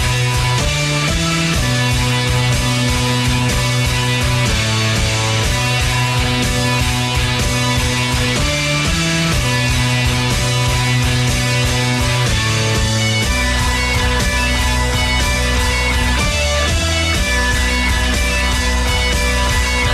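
A full-band song plays continuously and loudly during a music break in a radio program, with steady sustained tones, a driving beat and a dense mix that shifts to a deeper bass section partway through, with no one speaking.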